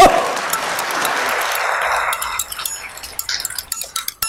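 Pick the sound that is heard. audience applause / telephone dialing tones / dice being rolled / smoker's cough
audience applause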